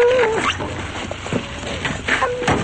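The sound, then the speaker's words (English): A large black dog whines and gives short yips as it is tossed some ice cream from a delivery truck, eager little vocal bursts repeating over a couple of seconds against a steady background hum. “He looks back at a large black dog.”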